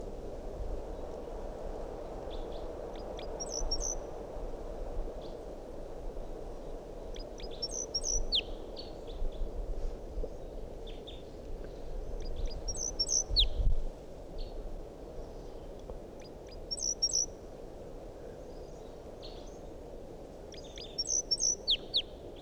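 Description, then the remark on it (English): A wild bird sings a flight song from up in a big pine tree above a net at 8:02: short, high, bright phrases, repeated roughly every four to five seconds, against a steady outdoor rush of background noise. No one speaks. “Still 8:02 and that wild bird is up in the big pine tree above the net. Song.”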